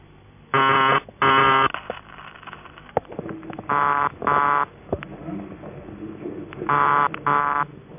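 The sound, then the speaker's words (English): A buzzy telephone ringing tone sounds in three double-burst cadences, each pair of harsh, reedy buzzes separated by a pause, loud and close over a faint background hiss with occasional clicks. “When you're using vibrator ringing tones, on most exchanges, a buzzer relay tuned to around 133 Hz is used, and here are three examples: Post Office UAX12, a manual exchange, and another PAX.”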